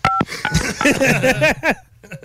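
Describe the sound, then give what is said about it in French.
A short pair of telephone keypad tones beeps clearly at the start as phone calls are being made, then gives way to lively, overlapping voices that fill the rest of the moment. “Maintenant, faisons des coups de téléphone.”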